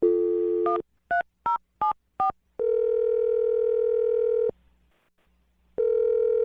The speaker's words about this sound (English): We're going to dial the phone number right now and attempt to get you another date here, okay?